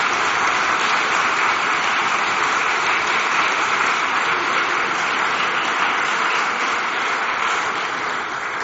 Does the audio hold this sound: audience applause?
yes